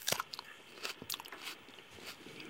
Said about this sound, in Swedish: Och då tar jag ett litet bett här och tuggar.